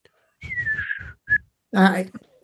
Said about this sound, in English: And the listeners were waiting to hear your whistle. That would be great. Oh my God, I can't whistle now. What the fuck? I used to be able to really.